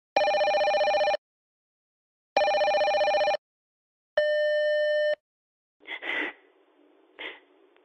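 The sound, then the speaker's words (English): A telephone rings three times for a promised call reporting how an audition went, each steady electronic ring lasting about a second with short pauses between, loud, followed by a couple of soft breathy rustles as the line goes quiet. “and I'll phone you and I'll let you know how it's gone.”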